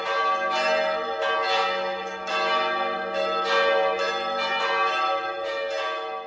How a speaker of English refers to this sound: there are still people who go up the church towers, pull the ropes, and perform the art of bell ringing